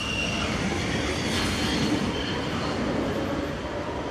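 An electric metro train rolls along its rails with a steady, dense rumble and faint metallic squeal, continuous and loud throughout with no voices.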